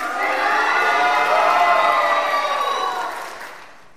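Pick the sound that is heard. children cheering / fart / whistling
children cheering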